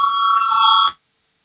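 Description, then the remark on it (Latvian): A steady electric bell rings continuously for just under a second, calling a parliament to vote, with a bright metallic buzz, then cuts off abruptly into silence. “Lūdzu zvanu, balsosim par otru atbildīgās komisijas priekšlikumu.”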